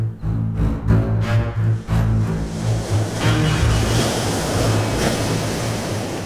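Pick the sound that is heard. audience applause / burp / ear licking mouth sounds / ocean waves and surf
ocean waves and surf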